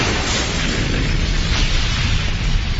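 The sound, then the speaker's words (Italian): A loud, sustained roaring rumble as a laboratory explodes and the flames of the explosion ignite gas, deep and broad, holding steady for a few seconds with no speech. “Il laboratorio è esploso. Le fiamme dell'esplosione devono aver raggiunto il gas.”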